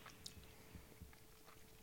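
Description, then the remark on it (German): Wet lip smacking into the microphone, a handful of soft sticky clicks and smacks spread unevenly over a couple of seconds, with no talking. “Ich schmatze ins Mikrofon.”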